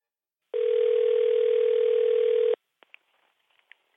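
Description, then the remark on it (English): A steady, loud telephone dial tone hums for about two seconds, then cuts off and gives way to a few faint, scattered clicks and short blips on the line as a call is placed to another person. “And for that, I need to get someone else on the phone.”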